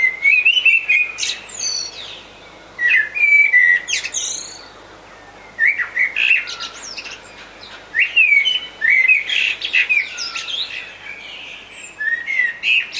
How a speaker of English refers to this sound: it has two introduced birds in it, the blackbirds and Indian miners.